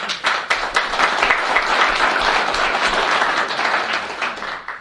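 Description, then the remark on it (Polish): A conference audience applauds steadily as the third and final speaker is welcomed, many hands clapping in a dense, continuous patter that stays fairly loud throughout with no voices standing out. “zapraszam ostatniego prelegenta, trzeciego, pana doktora Leszka Sekulskiego. Wielkie brawa.”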